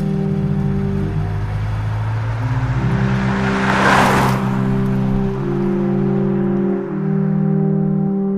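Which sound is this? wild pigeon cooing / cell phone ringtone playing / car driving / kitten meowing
car driving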